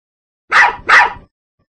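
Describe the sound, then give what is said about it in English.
A dog taped to the roof of a car barks twice in quick succession, two loud barks with a brief gap between them, followed by silence. “Some asshole scotch taped my dog to the roof of my car.”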